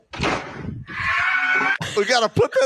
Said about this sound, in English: Play that last little bit again. The scream. We got to put that on the soundboard.